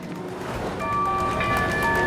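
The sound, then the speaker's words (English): An underground train sits at a station platform with a loud, steady rumble; partway through, high electric whining tones rise and hold over the continuous noise. “With his gun drawn, he races along the platform, searching each of the tube train's carriages in turn.”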